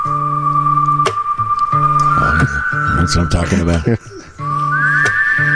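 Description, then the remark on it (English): Czech music with a steady whistled melody over sustained, droning accompaniment. Someone speaks briefly over it in the middle, then the loud, bright whistling continues alone. “you know what this needs? A little Czech music. You got anything for me?”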